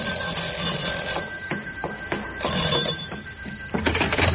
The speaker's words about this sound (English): 5 minutes later, the phone rang.